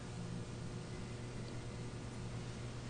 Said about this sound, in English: Aware of the hum of the heating system in the background.